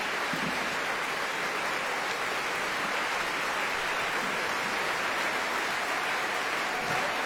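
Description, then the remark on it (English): Sustained, dense applause from a large audience at a curtain call in the Royal Opera House, for the singers, the Royal Opera Chorus and the orchestra under conductor Dan Ettinger, a steady wash of many hands clapping at once with no individual claps standing out and no voices. “And with applause still raining down on the singers, the Royal Opera Chorus and the orchestra under Dan Ettinger, it's time to leave the Royal Opera House.”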